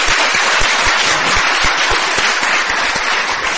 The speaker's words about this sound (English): Please, another round of applause.